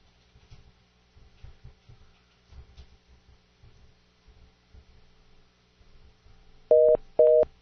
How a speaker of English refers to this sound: Hey, we got a busy tone over there. What? We have a busy tone going over. A busy tone?